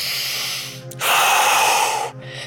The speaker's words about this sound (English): So we'll begin the breath work. Breath now. Deep breaths in through the nose.